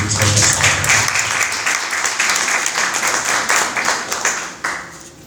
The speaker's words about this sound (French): Après donc ce déroulé, madame, monsieur, nous allons donc prendre le mot de bienvenue du représentant de madame la directrice générale de Subdeco en la personne de monsieur Danga, que je vous prie d'applaudir.